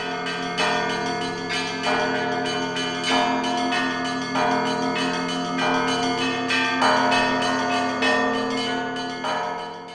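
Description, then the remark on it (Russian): A church's largest bell rings an urgent alarm (tocsin), struck rapidly and repeatedly in a steady pounding rhythm. It is loud, and its metallic overtones ring on between strikes, with no voices. “Вот это тревожный звон, когда набат бьют.”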